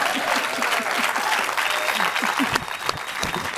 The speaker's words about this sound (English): Let's give her a hand.